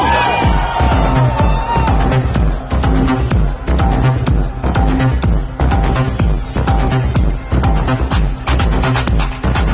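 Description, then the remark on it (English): A large festival crowd at EDC screams and cheers over loud, pounding music with a steady thumping beat and heavy bass, the roar sustained throughout. “Everybody scream!”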